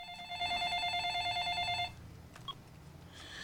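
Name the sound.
cordless telephone ringing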